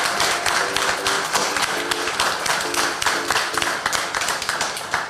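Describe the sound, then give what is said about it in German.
Steady audience applause for the show's moderator, a dense wash of many hands clapping with crisp individual claps and a few rhythmic bursts, loud and continuous throughout with no voices. “vielen, vielen Dank und nochmal einen ganz, ganz großen Applaus an unseren wunderbaren Moderator”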